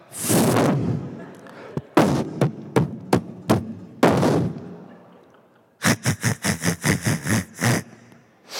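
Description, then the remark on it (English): A voice imitates an Indian-trained doctor forcefully percussing a patient's chest: bursts of breathy rumble followed by a rapid series of sharp thumps, then a faster run of about ten evenly spaced, loud knocking thuds. “And if you've ever heard an Indian-trained doctor percuss, it's like the frickin' hammer of Thor.”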